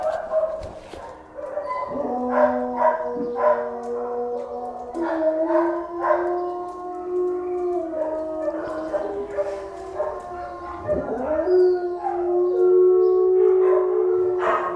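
Several dogs in a kennel howl together in long, overlapping wails that rise and fall in pitch, mixed with occasional short barks and whimpering yips, fairly loud throughout.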